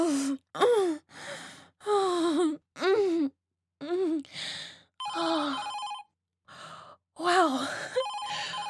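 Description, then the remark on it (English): An office telephone in a sales department rings in two warbling electronic bursts, the second overlapping and then following a run of breathy gasps and moaning vocal sounds that fill the first half. “Lucky on the timing there. Hello? Sales department? What can I do for you?”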